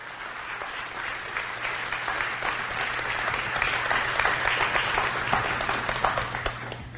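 Sustained audience applause, a dense crackle of many hands clapping at once that stays steady and fairly loud for about seven seconds, swelling slightly toward the end.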